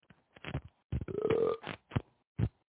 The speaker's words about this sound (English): You burped my damn face again.